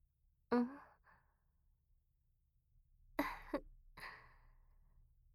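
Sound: yawn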